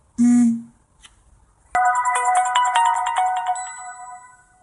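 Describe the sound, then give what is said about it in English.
A brief buzzing burst, then after a short pause a bright, melodic Samsung smartphone startup chime rings out with layered tones as the phone is turned on for the first time, sustaining and slowly fading over several seconds, clear. “Yep, after the Samsung startup sound, actually we will feel a little vibration on the phone, just a very small vibrate on the phone,”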